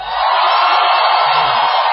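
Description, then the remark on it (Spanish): A large audience inside a hall shouts and whoops together on request in a loud, sustained roar that holds steady for a couple of seconds, with overlapping voices. “Ahora pueden gritar los de adentro.”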